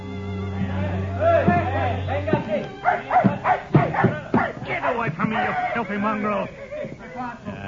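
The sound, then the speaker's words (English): A dog yelps in a quick series of sharp, pained cries after being kicked, loud, mixed with voices talking over a low steady hum at the start. “It is wrong, senor, but you kick a dog.”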